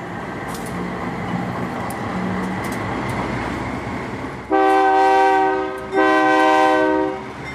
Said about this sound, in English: She's a single mother from El Salvador, traveling to the U.S. border on top of a freight train called La Bestia, the Beast.